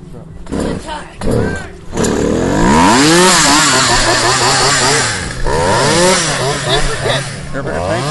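chainsaw engine revving

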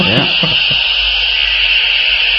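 dial-up modem connection noise

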